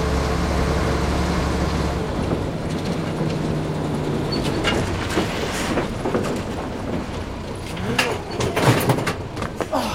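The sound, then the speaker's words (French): A truck in a Tintin adventure rumbles along, its low engine drone dropping away as it slows, leaving rattling, clanking road noise and a few sharp knocks. “Mais où ce camion va-t-il m'emmener maintenant ?”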